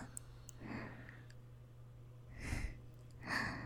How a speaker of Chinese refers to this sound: 怎么呼吸声这么重了？被铐着反而更兴奋了吗？